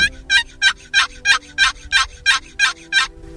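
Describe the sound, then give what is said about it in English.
A series of about ten evenly spaced raspy yelps from a turkey box call, loud, each a sharp two-note high-low stroke in a steady rhythm, made by pulling the lid across without lifting it, demonstrating the basic yelp for calling fall turkeys, with no talking. “Your box call, don't pick the lid up, just pull it across. You want a high-low.”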